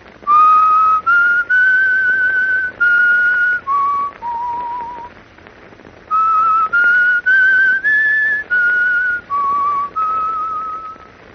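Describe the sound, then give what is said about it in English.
A single person whistles a short melody over the telephone, clear, in two phrases of sustained notes with a brief pause between them; the tune stops without resolving. Slightly muffled, phone-like tone, no talking. “I'll whistle the tune for you over the telephone.”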